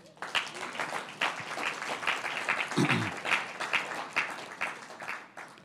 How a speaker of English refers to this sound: This, you have to give a hand clap offering to the Lord this morning. Come on.